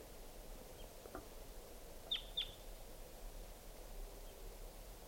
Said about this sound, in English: Here comes a wild crossbill, 6:16 p.m. type 2 bird.